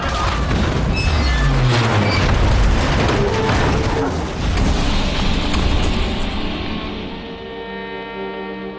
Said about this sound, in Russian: Вдруг страшный удар. Царский поезд сходит с рельсов.